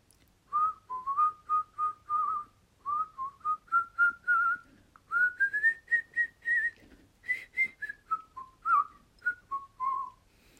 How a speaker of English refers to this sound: Can you whistle a tune? If so, please whistle a tune.